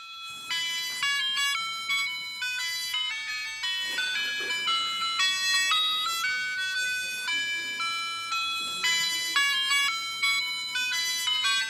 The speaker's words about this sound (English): What do you think that is? Ice cream truck. That's exactly right. When we were little, most of us, we'd hear that, we'd just go, whew, right? That was solid temptation, an ice cream truck.